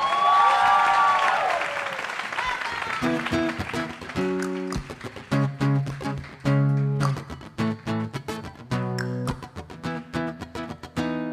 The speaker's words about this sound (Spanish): ¡Fuerte el aplauso